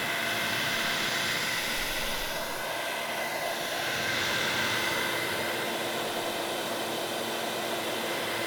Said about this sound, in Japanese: ドライヤーの音嫌いじゃないみたいだね。よかった。